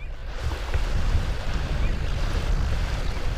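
The fishing vessel Wave Rider, a 32-foot gillnet boat, motors back into Dillingham Boat Harbor under gray skies and spitting rain; its engine rumbles low and steady beneath the wash of water and waves, with wind noise buffeting throughout. No one speaks.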